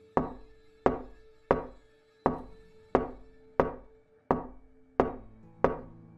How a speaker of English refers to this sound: After a few seconds of pause, another knock came. It then began a rhythm. It wasn't your typical someone knocking at the door wanting to see you. It was a slow, continuous one, almost like a heartbeat.